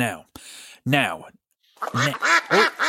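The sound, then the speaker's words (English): A cartoonish duck quack sound effect repeats several times: a couple of nasal quacks, a short pause, then a quick run of three or four rising quacks, loud. “Well, it's that sounds like the question duck,”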